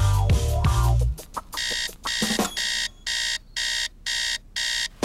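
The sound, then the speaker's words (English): A bedside alarm clock rings in loud, evenly spaced electronic bursts, about five or six pulses, following a brief low rumble and clatter at the start, at 7:43 before being switched off. “Sister switches off her bedside alarm at 7:43”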